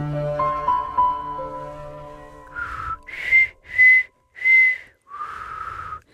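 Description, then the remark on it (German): Someone whistles a short tune: a held note, three quick separate pitches, then a final sustained note, clear and fairly loud, following a few seconds of soft, low, sustained musical tones. “Ich kann es einfach nicht pfeifen.”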